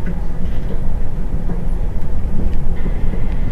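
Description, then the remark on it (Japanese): Steady low rumble of the Romance Car Hakone limited express train bound for Hakone Yumoto, in motion and heard from inside a carriage, a continuous dense roar with faint rhythmic clatter underneath and no one speaking. “Ladies and gentlemen, this is Romance Car Hakone, a limited express bound for Hakone Yumoto.”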